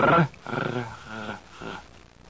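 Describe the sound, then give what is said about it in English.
A person imitates a dog's growl with a throaty, rolling rasp. After a brief loud onset come two vibrating growls, the first long and the second short, in a fairly low voice with no other speech. “Now, if that doesn't work, try growling like a dog in the back of the throat. Rrr, rrr.”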